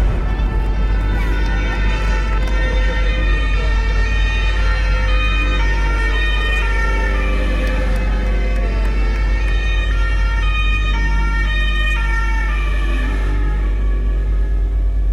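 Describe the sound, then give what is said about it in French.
Sirens of gendarmes and rescue vehicles wail continuously, several overlapping tones rising and falling over a constant low engine rumble, loud throughout with no pauses, as they arrive at 4 pm at the scene of a shooting on a forest road in the Combe d'Ire. “Il est 16h lorsque les gendarmes et les secours arrivent, toutes sirènes hurlantes sur le lieu du drame.”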